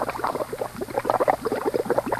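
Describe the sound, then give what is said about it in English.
A thick pot of clam chowder bubbling steadily, with a rapid, irregular stream of soft pops and gurgles at a moderate level, with no talking. “And please tell Infallible Charlie that I love to hear once again the sound of the bubble in the clam chowder we used to eat for supper.”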